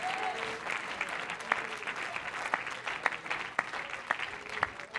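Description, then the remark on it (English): A church audience claps their hands to God during a sermon in a steady, dense wash of applause, with a few sharper individual claps popping out above the crowd noise. “Oh, let's clap our hands unto him.”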